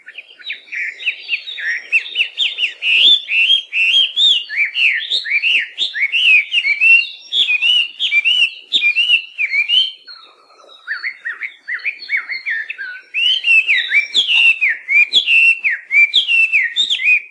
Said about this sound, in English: Melodious laughing thrush are native to southern China and southern Asia and were first brought here as cage birds by cane workers from China in the late 1800s.